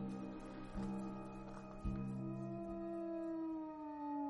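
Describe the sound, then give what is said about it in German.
Wolves howl in a drawn-out, overlapping chorus, long tones slowly sliding in pitch, with a couple of dull thumps early on and no voices. “wagt sich der Wolf in den Zeiten der Not bis in die Lager der Menschen vor, auf der Suche nach Essensresten.”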